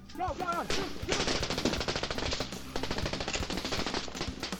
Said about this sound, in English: I remember the night in 1997 when I woke up to the terrifying sounds of gunshots.